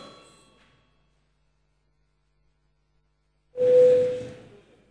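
parliamentary chamber bell ringing

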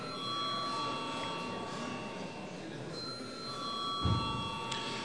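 parliament chamber bell ringing

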